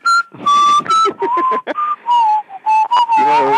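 A person whistles a bouncy, upbeat tune up close, with short pitched phrases and brief pauses between notes, ending on a longer held note with a fuller tone.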